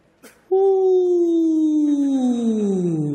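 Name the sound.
wolf howling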